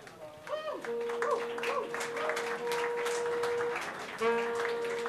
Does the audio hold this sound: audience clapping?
yes